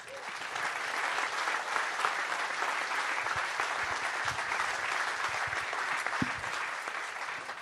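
An audience applauds steadily as Professor Michael Mayen is welcomed onto a stage, a dense wash of many hands clapping at an even level throughout, with no voices standing out.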